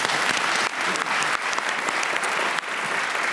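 A crowd claps steadily, a dense, loud wash of many hands with no pauses, sustained for a few seconds without any voices over it.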